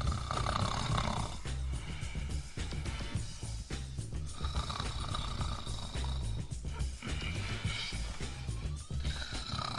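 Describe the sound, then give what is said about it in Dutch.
A voice imitates a houseguest's loud, rasping snoring, a continuous throaty rumble with harsh grinding breaths for about ten seconds, dominant with no other sounds. “De snurk.”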